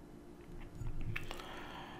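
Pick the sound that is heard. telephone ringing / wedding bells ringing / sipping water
sipping water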